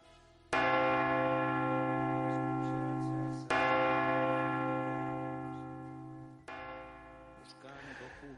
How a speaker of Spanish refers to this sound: es expresivo y cambiante el lenguaje de las campanas. Su vibración es capaz de acentos hondos y graves y livianos y agudos y sombríos. Nunca las campanas dicen lo mismo y nunca lo que dicen lo dicen de la misma manera.